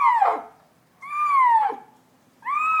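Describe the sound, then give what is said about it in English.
Basu, a blind leopard in a cage, gives three drawn-out, meow-like calls, each a strong harmonic cry that slides downward in pitch, separated by short pauses; the last is cut off. No one speaks. “The meow is actually a little intimidating, but Basu is a total sweetheart.”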